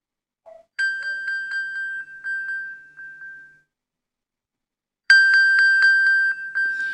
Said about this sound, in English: That is the noise that my phone makes when I ping it with my Apple Watch. So if you've dropped it behind the sofa, obviously you would hear that. And you hear that sound like a sonar sound, even if it's on silent, locked, you name it.